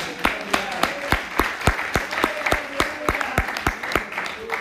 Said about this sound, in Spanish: Denle aplausos. Gloria, gloria.